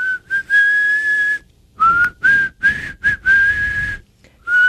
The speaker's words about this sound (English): Are you doing inside and outside? I'm a sucker and a blower when it comes to whistling.